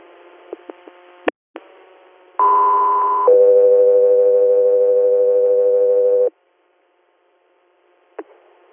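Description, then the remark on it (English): Radio dispatch alert tones: a loud, steady higher tone for about a second, then a lower tone held for three seconds, preceded by squelch clicks over faint radio hiss and followed by silence. “Guess we are stand by for tones.”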